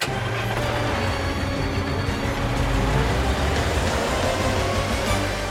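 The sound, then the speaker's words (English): A car, Carl, drives steadily through city streets and arrives downtown, its engine rumble and road noise forming a continuous, even wash of sound with a low hum underneath and no voices. “Carl drives through the streets and arrives downtown.”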